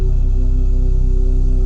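Two steady humming tones of the first and second chakra frequencies sound together, the second pitched an octave above the first, sustained and even throughout with no break or speech.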